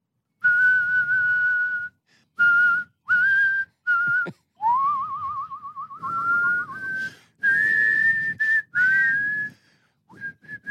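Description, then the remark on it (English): A person whistles a melody in a series of phrases with short pauses, the tone sliding and wavering with a vibrato-like trill in the middle, loud with no talking. “Now, what's the deal with you and your whistling?”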